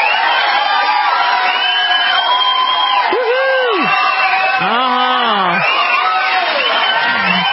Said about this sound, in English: So how about that? I'm going to give him a little applause for that.